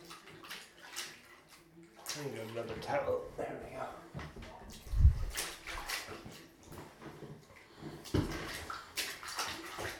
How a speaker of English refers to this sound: Splashes.